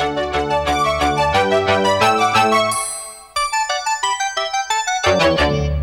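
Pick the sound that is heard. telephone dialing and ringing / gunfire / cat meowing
telephone dialing and ringing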